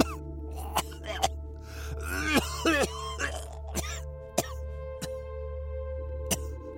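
A person coughs repeatedly in uneven, strained bursts, with raspy, gurgling vocal sounds between sharp coughs, close up over a steady low droning hum.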